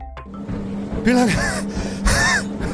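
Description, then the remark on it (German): Heavy, ragged panting from a person who has been running for three minutes: two loud breathy gasps about a second apart, each with a strained voiced edge, over a faint steady hum. “Du läufst seit 3 verdammten Minuten und du hechelst schon wie ein scheiß trauriger Hund, Mann.”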